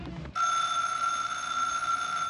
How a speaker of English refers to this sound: the phone's ringing.